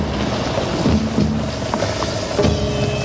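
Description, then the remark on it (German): A boat with its motor switched off is paddled through water under steady wash and wind, with a few soft splashes of paddle strokes dipping in at irregular intervals, moderately loud. “Wir müssen jetzt paddeln.”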